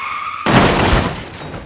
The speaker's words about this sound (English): He turned his head suddenly to look towards the sound of screeching tires and crunching metal coming from the street.